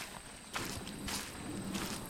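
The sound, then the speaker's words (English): A few steady footsteps at an unhurried walking pace at nearly noon under a blazing hot sun, each a soft scuffing thud over a faint background hiss, growing slightly louder as they approach. “Wondering where to go next, he hears some footsteps approaching him.”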